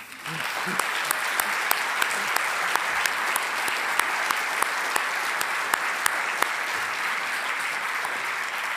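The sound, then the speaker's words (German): An audience applauds a speaker steadily for about nine seconds, a dense wash of clapping with sharper individual claps popping out at irregular moments, holding an even, fairly loud level throughout. “und ich glaube, sie hat sich einen Applaus verdient.”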